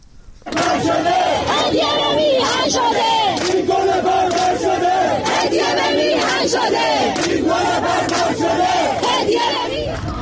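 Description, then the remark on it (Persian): A large crowd chants protest slogans in unison at the 40th-day memorial for Hamidreza Rouhi, killed in recent protests, at Behesht-e Zahra cemetery in Tehran, Iran; loud and continuous, with rhythmic shouted phrases repeating over roughly ten seconds and voices overlapping throughout. “ویدیوهای منتشر شده در شبکه‌های اجتماعی نشان می‌دهد مراسم 40 حمیدرضا روحی از کشته شدگان اعتراضات اخیر روز پنجشنبه در بهشت زهرای تهران با سر دادن شعارهای اعتراضی حاضران و حمله نیروهای حکومتی به آنها برگزار شد.”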